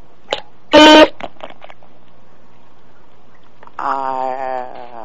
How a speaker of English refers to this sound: What's that beeping? Does that mean?